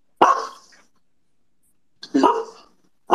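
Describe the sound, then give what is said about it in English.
Two loud, sharp dog barks separated by a pause of over a second, with a third bark just starting at the very end; each bark is a bright, harmonic burst that quickly tails off. “You like the little bark addition?”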